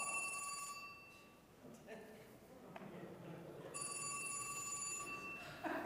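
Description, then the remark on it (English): An old-style telephone bell rings in two bursts with a gap of about two and a half seconds between them, fairly clear over a low background murmur. “There's a phone down here.”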